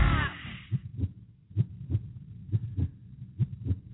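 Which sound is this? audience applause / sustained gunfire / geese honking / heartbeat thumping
heartbeat thumping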